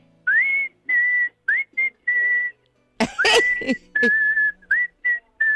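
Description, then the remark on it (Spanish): A person gives an admiring whistle for listeners, a series of short, clear notes, several sliding upward, interrupted midway by a loud cough before the whistling resumes. Fairly loud, with no talking. “Hombre, manda un silbido a los oyentes, aunque sea uno admirativo.”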